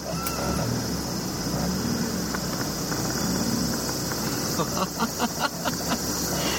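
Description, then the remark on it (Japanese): A Roadster sports car with freshly overhauled suspension parts pulls away and drives, heard from inside the cabin: a steady low engine and road rumble with broad hiss, and a short run of faint, regular ticks near the end. “もう動き出しから分かりますね。動きはもう全く違います。”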